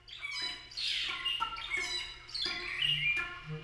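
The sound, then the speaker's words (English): Cranes call over and over during their annual migration, their rough, trumpeting cries overlapping in a steady chorus at moderate volume, with no talking. “To me, the annual migration of the cranes embodies the idea of the endless cycle of renewal and return.”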